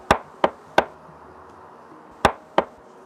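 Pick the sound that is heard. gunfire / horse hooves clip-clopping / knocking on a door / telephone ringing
knocking on a door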